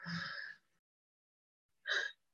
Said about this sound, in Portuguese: Você faz uma respiração profunda, mais leve, mais tranquila, mais feliz, mais conectada.